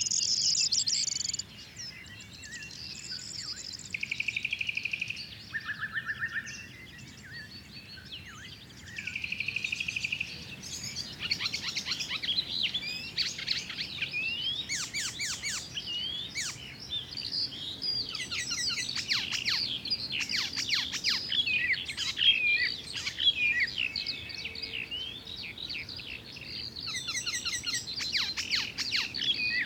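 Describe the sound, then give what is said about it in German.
Corn bunting song, a dry jangling trill repeated over and over amid a busy chorus of other birds chirping and whistling outdoors, steady throughout, with no talking. “Grauammern. Über 100 Brutpaare werden regelmäßig gezählt.”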